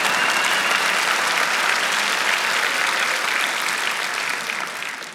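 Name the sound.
audience applause and clapping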